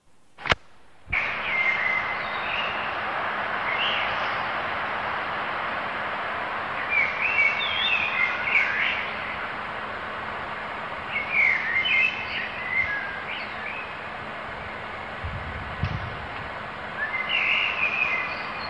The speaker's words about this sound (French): Ça s'arrête et en fait ils arrêtent à un moment parce qu'on se rend compte que c'est une bande son et que ces chants d'oiseaux, c'est pas l'environnement dans lequel ils vivent, mais c'est finalement quelque chose qui a été enregistré